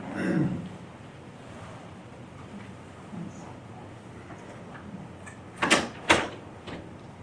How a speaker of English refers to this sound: Actually, someone could close the door at the back.